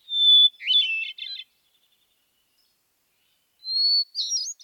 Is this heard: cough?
no